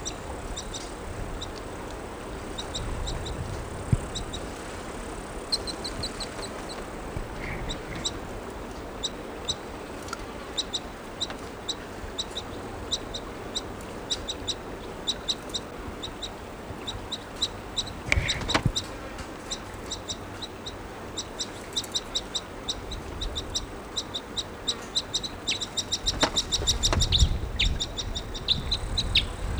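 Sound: bird calls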